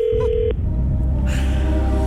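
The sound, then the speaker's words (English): A short, steady electronic telephone tone sounds for under half a second as someone phones a Chinese restaurant, then cuts off, leaving a low rumbling hum with faint hiss underneath; no one speaks. “I have to ring a Chinese. I'm ringing the Willow and Wilton.”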